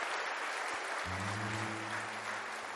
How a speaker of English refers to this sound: Let's give a mighty hand clap to the King of Kings and the Lord of Lords.